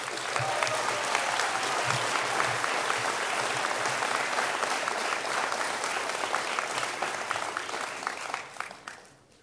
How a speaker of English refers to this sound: So all the dancers that were there in 2014, please give yourself a round of applause because you did the healing. You made it happen.